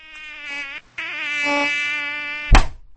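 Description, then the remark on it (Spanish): A housefly buzzes in a steady, wavering whine, pausing briefly before droning on, then a single sharp smack of a fly swatter cuts it off abruptly. “Ves malditas moscas. Espera, tengo aquí un matamoscas, plachachka.”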